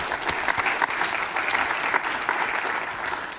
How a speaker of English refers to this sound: So also small applause for them, please.